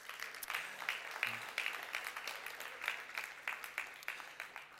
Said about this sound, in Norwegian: En applaus for Steffi her.